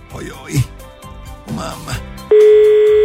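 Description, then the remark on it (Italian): A telephone ringing tone sounds while a call is being placed: a loud, steady electronic beep starts abruptly near the end, preceded by a voice with wavering, sung-like pitch. “La persona risponderà il telefono.”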